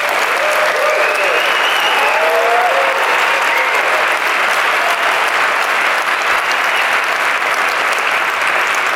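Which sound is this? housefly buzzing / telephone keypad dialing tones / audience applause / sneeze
audience applause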